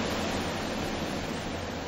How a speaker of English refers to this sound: Hear how windy it is on Omaha Beach.